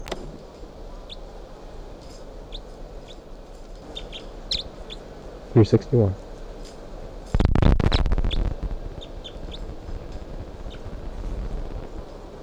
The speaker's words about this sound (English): And all of a sudden, the bird started calling, and including bird 361, the new type 5 female. And I'm trying to tape record her right now.